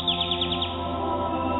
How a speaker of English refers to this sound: You hear birds singing.